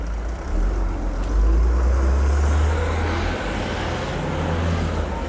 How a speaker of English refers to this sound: Bus ride. Homeward bound on the 24